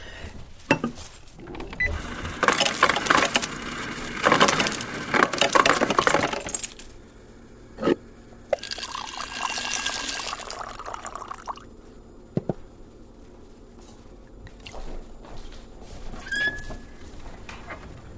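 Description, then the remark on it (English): Ice cubes clink and rattle into a glass of water, followed by a stretch of liquid pouring and a few sharp taps against the glass, with no talking. “I put ice in it.”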